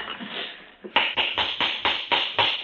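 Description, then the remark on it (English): A hammer taps steadily on a horseshoe while a horse is being shod, about seven sharp, evenly spaced blows in quick succession, preceded by a brief soft rustling and a single lighter knock. “Reach me that hammer, will you?”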